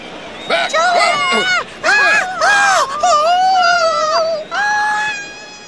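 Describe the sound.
A crowd of fans of a famous band screams and cheers in shrill, overlapping high-pitched voices, rising and falling in loud bursts with a few brief pauses between them.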